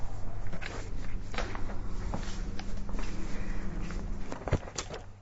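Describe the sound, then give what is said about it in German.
Footsteps echo faintly from down a corridor, a series of soft, uneven taps and scuffs over a steady low hum, ending with one sharper knock. “Das sind Schritte ganz von fern. Diese Schritte enden an diesem Gang.”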